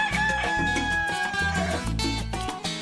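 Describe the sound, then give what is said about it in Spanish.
A rooster crows in a long drawn-out call, heard over a loud, rhythmic music bed with heavy bass pulses, at 8:01 in the morning on Radio Martí's show Tempranito y de mañana. “8:01 de la mañana y estamos acá, ese gallo levantando a todas esas personas indecisas que todavía no se han tirado de la cama para escuchar Radio Martí y por supuesto para escuchar Tempranito y de mañana.”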